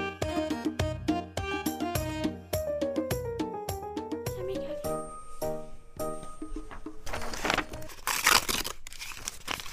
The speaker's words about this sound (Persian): چرا ورق کتاب چه تا پاره کردی؟ چون میخوایم یک رسم دیگه بکشم که از رسم تو کده مقبول تر باشه.